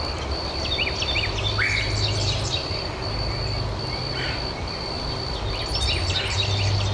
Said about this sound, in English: Yep, there's two birds in there. The one that's dooley dooley dooley is the Carolina wren, and the one that's saying the queer, queer, queer, we'll play it again. That's the red-headed woodpecker. So listen to two species.